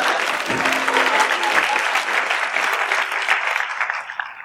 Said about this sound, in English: yeah, you can go ahead and clap if you want.